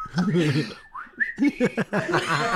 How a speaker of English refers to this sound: The guy who did this is literally at the sink right now, cleaning himself up. Doing a whistle. But not the toilet. Doing a nice calm whistle.